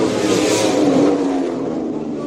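racing motorcycle engines revving

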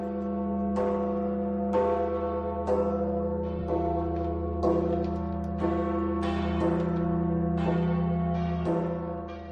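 church bell tolling

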